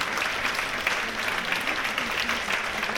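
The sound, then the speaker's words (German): Sustained audience applause given to a longtime accompanist of the performer, a dense steady wash of many hands clapping at an even loudness for about three seconds, with no voices standing out. “Einen kräftigen Applaus für Alex!”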